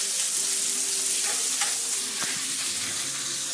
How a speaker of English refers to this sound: Well, that chicken is browning up really nice. You got some fond down there at the bottom.